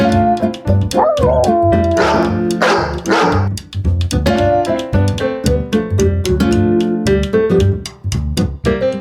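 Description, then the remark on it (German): Dogs bark and yip in quick, lively bursts, loud, with a brief whimpering or howling note partway through and no one talking, during puppy training at a dog school in Langenfeld. “Ich bin bei dir hier House of Animals wieder beim Welpentraining.”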